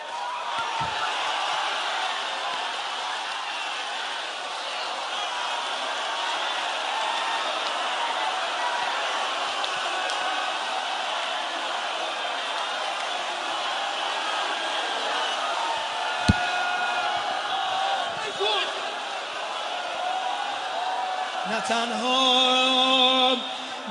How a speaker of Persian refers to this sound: میخوام صدا گریه زنا رو بشنوم الان. خواهرا هر کی صدامو میشنوه جیغ بزنه با این یه مصرا. هیچکی مردا هیچی نگه، میخوام یه خورده حس کنی تو خیمه چه خبره. اگه زنا با هم جیغ بزنن چی میشه؟ هیچی نگن مردا.